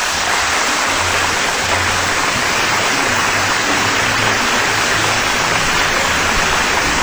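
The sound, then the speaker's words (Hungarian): A crowd applauds for the Zamárdi street festival in a dense, unbroken wash of clapping that stays loud and steady throughout, with no voices standing out and a faint low hum underneath. “ez volt a Zamárdi utca fesztivál, és tapsot nekik.”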